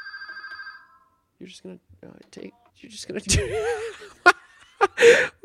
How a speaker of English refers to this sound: Oh, someone's calling. Sorry. Me. Hold on.